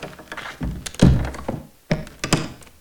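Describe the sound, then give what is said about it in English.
A bedroom door is slowly closed, a dull wooden thunk followed by a couple of softer knocks and latch clicks, with no voices around it. “Grace slowly closes the door of her bedroom where her husband still lies motionless on the bed”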